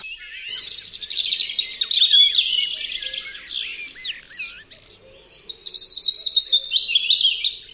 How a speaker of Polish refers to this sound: Brudzik to oczywiście typowy ptak wróblowy